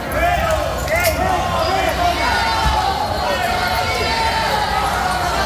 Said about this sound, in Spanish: aunque sí es verdad que su llegada hasta el Supremo ha sido igual, marcada por los abucheos.